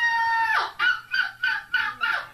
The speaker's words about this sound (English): It's like a rooster. Seagull on crack.